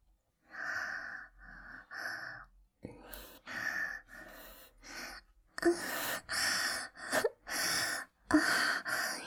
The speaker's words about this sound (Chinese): 现在我就假装做爱给你看吧。你可以听我的喘息声，